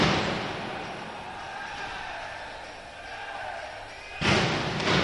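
Scattered claps from a handful of people echo through a large, mostly empty stadium over steady background hiss, with a brief louder burst of clapping near the end.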